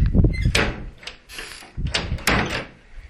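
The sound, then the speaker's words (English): A secondary door with a glass panel, in a small area behind the entrance door, is opened and shut: a low thud, then handle clicks and a rattling swing, ending in a sharp latch as it closes. “Now, directly facing me, I'm in a small area which has first the entrance door, and then we have a secondary door, which has primarily got glass on it.”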